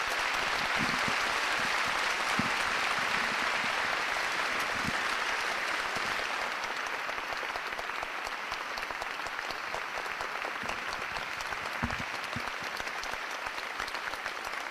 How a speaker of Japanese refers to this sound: はい、素晴らしいお話をしていただきました斉藤ひとりさんにもう一度大きな拍手をお願いいたします。